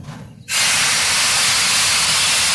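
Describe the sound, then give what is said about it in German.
The first train of the morning lets off a loud, sudden blast of hissing steam that starts abruptly after a low rumble and holds steady and continuous, with no voices. “Und am nächsten Morgen wurde er durch den ersten Zug des Tages geweckt.”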